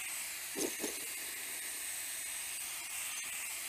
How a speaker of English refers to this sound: So we've got plenty of steam, the safeties are lifting.